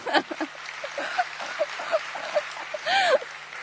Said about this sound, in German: Ein Applaus.